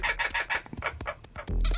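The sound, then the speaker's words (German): A kookaburra's laughing call: a rapid string of loud, cackling hoots rising and tumbling in quick rhythm, with no one speaking, ending in a lower, rougher burst. “Gerade dieses Nachlachen fand ich toll. Der klingt so, wenn er den Schnabel aufmacht.”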